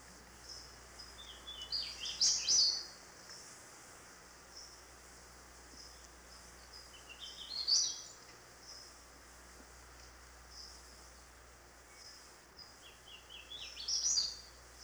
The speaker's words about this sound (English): In heavy, moist forests of the northern part of the state, one of our most beautiful warblers is the hooded warbler.